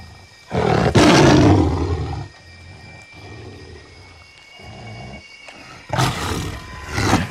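A tiger bares its fangs and snarls loudly in a small clearing amid dense foliage: a harsh roaring burst, then a low rumbling growl, then another snarl flaring up at the end. No one speaks.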